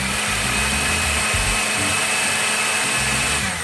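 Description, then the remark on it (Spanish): A blender runs steadily, puréeing cooked carrots and chestnuts for a mayonnaise, with a loud, constant whirring roar and a thin high whine, with low churning rumbles and no voices. “Ahora sí, licuamos todo muy bien.”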